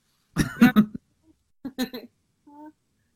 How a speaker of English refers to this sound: You okay, Marge? Sorry, our dog's coughing.